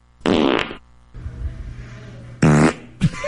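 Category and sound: human body sound, fart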